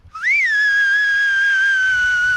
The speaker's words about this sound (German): Erst kommt ein lauter Pfiff, um Aufmerksamkeit zu erregen.